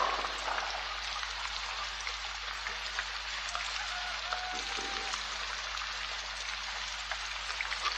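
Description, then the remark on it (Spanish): Steady rain falling, a dense continuous hiss of drops with occasional sharper pattering, heard alone at a constant moderate level with a low hum beneath. “Baja la cabeza y se aleja entre la lluvia.”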